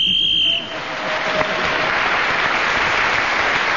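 A short, shrill whistle blast marking the end of a speaking turn in a panel game sounds with a steady high pitch for about half a second, then loud, sustained applause from an audience takes over and continues to the end.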